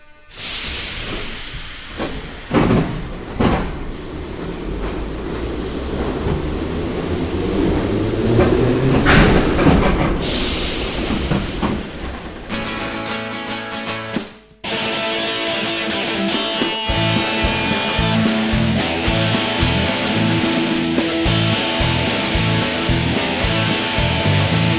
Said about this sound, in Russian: Уважаемые пассажиры, будьте осторожны, поезд отправляется.